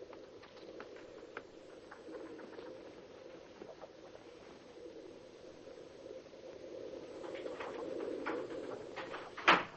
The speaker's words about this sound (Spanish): Tamén notoria, efectiva e espectacular a utilización dos efectos sonoros de movimentos de as e granidos de paxaros.